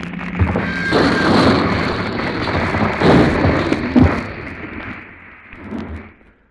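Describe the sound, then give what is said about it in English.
A heavy rumbling crash of a boulder hurled down a cliff onto a road in a mountain pass sustains for several seconds, with deep booming thuds and gritty rattling debris, peaking around the third and fourth seconds before tapering off into a lower rumble. “Traveling in a fast car, they wind their way through a treacherous mountain pass as Fedya and an assistant attempt to stop them by hurling a boulder down a cliff into the road.”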